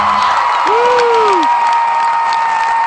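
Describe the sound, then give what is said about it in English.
A large concert crowd on its feet roars and cheers continuously for the performer, with applause mixed in and a single rising-and-falling whoop cutting through early on; the noise stays loud and dense throughout. “He's really got the crowd on their feet.”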